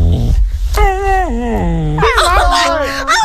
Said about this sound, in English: Did you hear? Go again. The puppy was speaking to her. I love you.